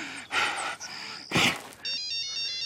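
A couple of sharp, breathy gasps, then a steady electronic phone ringtone starts up and continues at moderate volume, with no talking. The phone rings at night, waking a man in bed.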